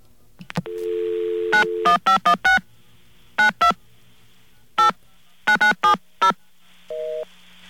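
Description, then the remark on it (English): A steady dial tone gives way to a quick series of touch-tone dialing beeps in irregular bursts as a number is called, all over a constant hiss of line static, ending with a brief tone. “Yeah, there's way too much static over it.”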